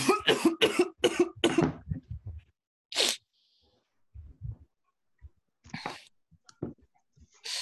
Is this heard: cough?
yes